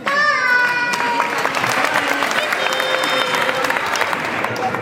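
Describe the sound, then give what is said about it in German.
Sustained audience applause at the end of a children's stage show with Pudding, a dense steady patter of many hands clapping, with excited voices and children's shouts mixed in throughout. “Dann darf geklatscht werden.”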